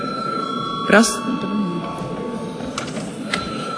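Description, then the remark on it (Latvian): A bell rings continuously with a steady, buzzing metallic tone, opening with a short louder clatter, while faint murmuring voices and shuffling carry on underneath; it is rung to call a vote once debate is closed. “Debates slēdz, lūdzu zvanu.”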